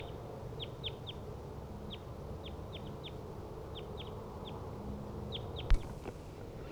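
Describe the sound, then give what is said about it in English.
Two wild crossbills call with short, sharp chip notes in quick pairs and triplets from the treetops, each in a different tree surrounding a decoy cage about 20 to 30 meters away, repeating throughout over a steady low outdoor rumble, with one brief click near the end. “Wild crossbills are in the treetops, each in a different tree, surrounding the decoy cage, each about 20 to 30 meters away from the cage.”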